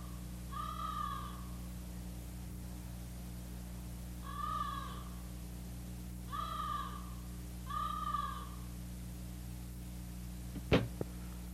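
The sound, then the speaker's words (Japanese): At night, a crow gives four harsh, drawn-out caws spaced a couple of seconds apart over a steady low hum, followed near the end by a single sharp knock; the crow has come to peck at the flesh of the dead. “あのカラスを見ているとほんまに心が縮まりますの。ああやって死人の肉をついばみに来るのを見ていると、わしゃもう死にとうない気持ちでいっぱいじゃて。”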